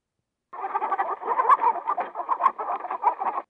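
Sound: chickens clucking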